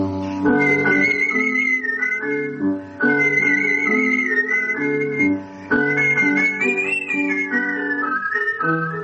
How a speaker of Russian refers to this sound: А занятие художественным свистом так и осталось хобби, увлечением, растянувшимся на 60 лет.